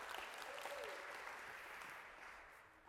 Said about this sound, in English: All right, a round of applause for these guys, and we'll let them out of their misery.